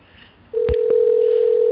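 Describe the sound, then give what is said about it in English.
A telephone line tone switches on after a brief hush as a call is dialed and rings on the line, steady and unbroken, with a couple of sharp clicks near its start. Fairly loud, with no talking. “Okay, it's ringing. Can we hear it clearly?”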